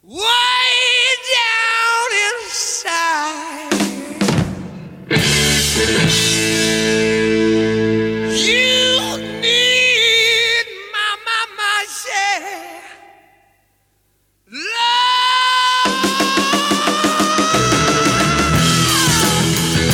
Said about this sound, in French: c'est une version où on entendait bien le theremin et c'est vrai qu'à des moments ça rugit comme il faut